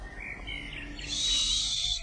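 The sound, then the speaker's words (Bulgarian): A nightingale sings faintly at night by a new house, warbling notes rising into a thin, sustained high whistle against a quiet background with crickets and no talking. “Слушай. Славей.”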